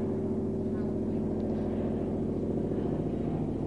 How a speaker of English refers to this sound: You see, that helicopter that we can all hear